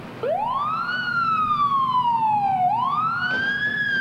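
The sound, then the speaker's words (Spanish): A police car siren wails loudly and alone, its tone climbing steeply, sliding slowly down, then rising again in a long sweeping cycle over a low engine hum. “I don't know if we see more than one police car.”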